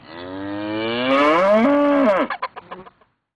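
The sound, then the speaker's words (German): A single long, loud moo from a dairy cow on pasture swells for about two seconds, then breaks off into a few short grunting pulses before stopping, with no voices. “Die Milchkühe auf der Weide hingegen haben immer noch Gutmuhen.”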